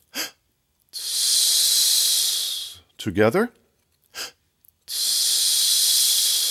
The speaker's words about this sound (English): Check your posture once more, then let's take in another quick gasping breath and blow it out on the s sound. I'll do it first, then you join me.